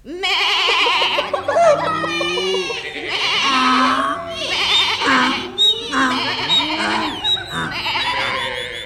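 A chorus of farm animals on a farm in the morning calls over one another, with wavering goat-like bleats rising and falling among other overlapping cries, loud and continuous throughout.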